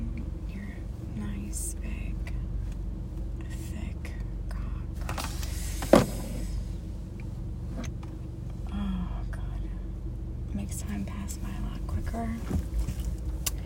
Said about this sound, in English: Oh, Jesus. I forgot about my clutch. My car just stalled out.